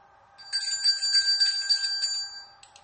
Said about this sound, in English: Who in the world is out there shaking a bell?